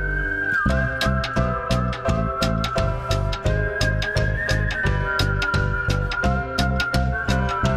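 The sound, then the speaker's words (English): An upbeat three-minute pop track with smart transitions, a steady, punchy toe-tapping drum beat and bass, topped by a clear, sustained whistled melody that glides and holds notes throughout, loud, with no voices. “a three-minute mini-opera with smart transitions, a toe-tapping beat, and some well-placed whistling.”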